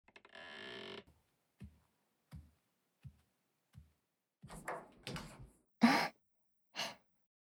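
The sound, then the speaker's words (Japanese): A door opens and closes with short rustling, clattering bursts, after a brief whoosh and a series of soft, evenly spaced thuds. Quiet, with no talking. “早くドア閉めて。”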